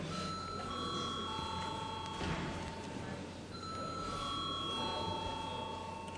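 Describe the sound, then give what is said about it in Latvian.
A steady electric bell rings continuously in a parliament chamber to call a vote, briefly pausing midway before sounding again, with a faint murmur of background voices and noise underneath. “Lūdzu zvanu.”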